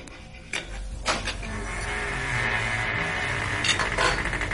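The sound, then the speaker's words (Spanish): Dishes and cutlery clink a few times at an unhurried, irregular pace as dinner is served, over a steady low background hiss, with no one speaking. “Se sentó y me sirvió la cena y estaba muy callada.”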